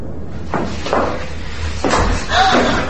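household object, door being shut

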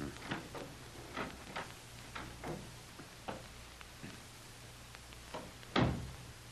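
household object, cellar door opening

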